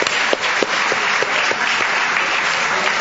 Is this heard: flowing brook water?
no